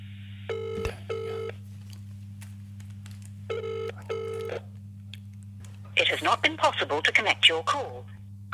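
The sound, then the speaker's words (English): A phone line rings twice with the classic double-burst ringback tone as a call to Pam Ranson is placed, clear and steady over a low electrical hum, followed by a voice speaking briefly at the end. “Is it ringing?”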